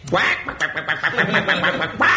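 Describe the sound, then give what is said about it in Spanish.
A man's voice mimics a chicken, letting out a quick, rhythmic run of loud clucks for about two seconds, bracketed by longer squawk-like calls at the start and end. “¿has llamado gallinas a los telespectadores?”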